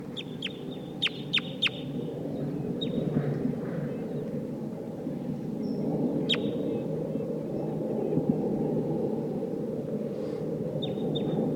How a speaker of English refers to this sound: I hear wild crossbills here. It sounds like a Sitkensis type.